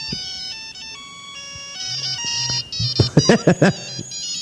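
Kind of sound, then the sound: signal or alarm, mobile phone ringtone playing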